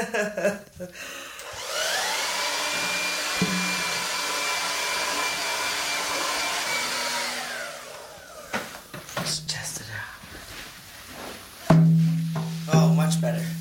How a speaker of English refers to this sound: and we finally figured out the hair dryer works the best.